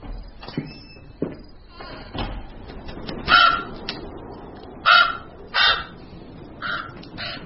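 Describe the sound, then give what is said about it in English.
A crow caws several times in harsh, loud bursts spaced a second or so apart, with a couple of quieter calls earlier and a rustling outdoor background throughout. “Crows are all liars.”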